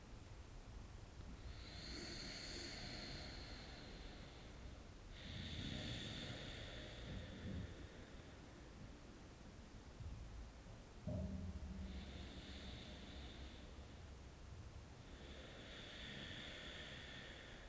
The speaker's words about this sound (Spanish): Dejándote sentir la vibración por todo el cuerpo al hacer esta respiración.